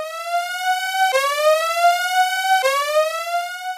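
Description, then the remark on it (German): A loud electronic siren, used as a spoiler alarm, rises in pitch, drops, and climbs again in steady cycles of about a second and a half, with no voices. “Ich glaube, da gibt es verschiedene Ansichten, aber ich bin jetzt in der Meinung, Spoiler-Alarm, fang an.”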